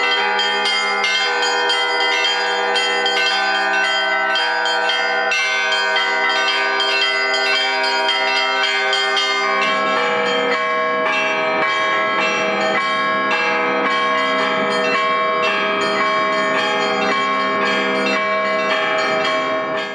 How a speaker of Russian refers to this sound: Второй частью фестиваля стал конкурс действующих звонарей храмов Севастопольского Благочиния возрастом от 9 лет.